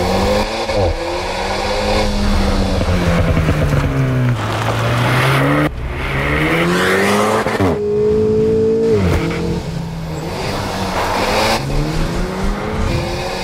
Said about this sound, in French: Entend le moteur de la nouvelle Alpine Renault sur les routes de montagne.